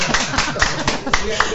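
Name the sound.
audience clapping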